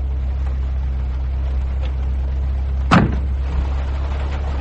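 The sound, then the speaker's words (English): A car engine idles with a steady low rumble throughout, left in automatic drive as the driver gets out; a single sharp clunk, like a car door, cuts in near the end. No one speaks. “Leave it in automatic drive and the old bus will fly over the top sweet as a bird. I'll get out and have a butcher's.”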